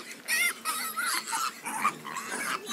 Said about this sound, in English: So how many pigs do you have here? I've got 100 pigs for 10 hectares. So 10 hectares, 100 pigs. Yes. And they've just had piglets. They born here free, in the forest.